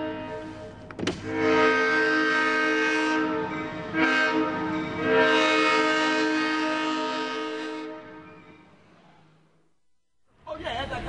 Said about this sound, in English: And you see the railroad's still functioning. Yeah, here comes Amtrak. Here comes the train.